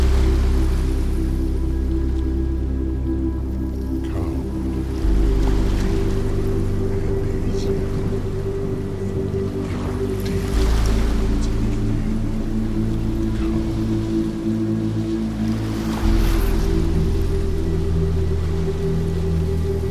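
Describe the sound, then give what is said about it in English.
Gentle ocean waves swell and recede roughly every five seconds, blended with a steady, low droning musical bed that sounds calm and continuous. “And as you breathe out of your nose, I want you to match the rhythm of your breathing to the rhythm of the music, the rhythm of the waves.”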